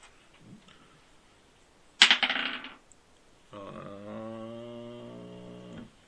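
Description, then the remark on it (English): Dice, rolled for an investigation roll, clatter onto a hard surface in one sharp, loud rattle that tumbles and settles within a second, followed later by a steady, droning, buzzy tone held for a few seconds. “But do give me an investigation roll.”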